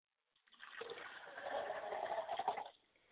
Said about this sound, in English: As I pour libation and pour a glass of water for my father, I say, Ashe.